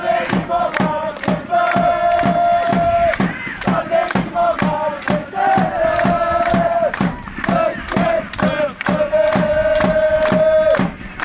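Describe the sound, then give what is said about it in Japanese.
A large crowd of Grulla Morioka football supporters sings the cheering chant 'Ame ni mo Makezu', based on a Miyazawa Kenji poem, during a match against Fukushima United FC, in unison, driven by loud, steady drum beats, with long sustained melodic notes repeating in phrases throughout. “グルージャ盛岡にも様々な応援歌があり、これからお聴きいただくのは宮沢賢治の詩をモチーフにした雨にも負けずという応援歌です。”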